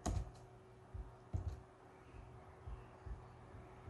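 A few faint, sharp computer clicks, one at the start and another just over a second later, over a low steady hum, with no one speaking.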